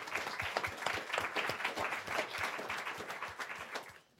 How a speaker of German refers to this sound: Ein Applaus an dich und herzlich willkommen.